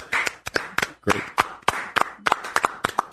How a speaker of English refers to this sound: our great cameraman, and just wanted to give him a round of applause.